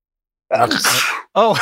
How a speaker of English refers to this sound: Sneezing is never normal. It's never normal.